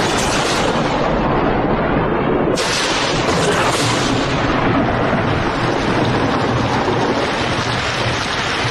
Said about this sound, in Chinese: 打雷了。